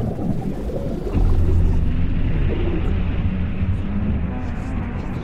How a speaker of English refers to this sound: The hell whale screeches. You all hear this, and you all feel terror in this moment.